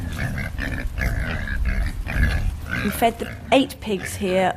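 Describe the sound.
Eight pigs at Stepney City Farm in London, fed on spent brewery grain, whey and vegetable peelings, grunt and oink in a steady run of low snorts, with a few higher squealing calls near the end, and a person talking over the animals.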